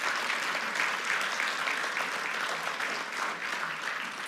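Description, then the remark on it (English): An audience applauds steadily for several seconds in thanks for Matthew's great work for God's mission, a dense, even wash of many hands clapping at once with no pauses and no voices rising above it. “Would you join me in thanking Matthew again and applauding their great work?”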